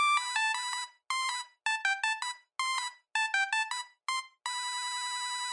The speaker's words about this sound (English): And these were basic monophonic ringtones, simple bleeps and bloops, like this.